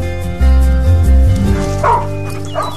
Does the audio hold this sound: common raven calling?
no